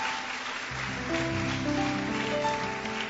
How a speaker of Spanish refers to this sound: ¿Por qué no le damos un aplauso bien fuerte al Rey de Reyes y Señor de Señores?